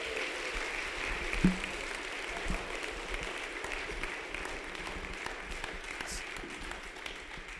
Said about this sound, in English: Yeah, what a gifted couple coaches that we have. Could you give those guys a big round of applause?